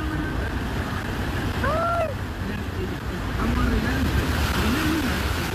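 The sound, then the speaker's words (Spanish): A pickup truck ploughs through deep floodwater, producing a loud, steady rush of churning and splashing throughout, with faint voices rising briefly in the background. “Oye, pero mira la cantidad de agua. ¿Es una lancha o una camioneta?”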